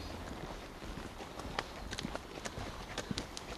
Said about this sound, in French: Les ânes qui passent devant chez Eric.